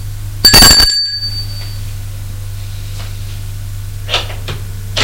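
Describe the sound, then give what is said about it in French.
A doorbell rings once, a sharp bright chime that fades over about a second, then soft rustling over a steady low hum. “Sonne à la porte.”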